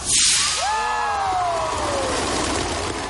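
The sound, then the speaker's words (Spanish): About 5,000 bottle rockets launch at once in Rocket City, Alabama, in an attempt to break a Guinness world record. A loud, rushing whoosh of spray comes at the start, followed by thin, falling whistling tones that fade gradually into a steady background rumble. “Estamos lanzando 5.000 cohetes de botellas para romper un récord mundial de Guinness”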